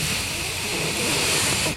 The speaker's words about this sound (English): the first phoneme of your name is actually some static